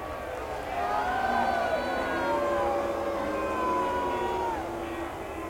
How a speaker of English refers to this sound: Now these folks up here just don't approve of it. You can hear them booing.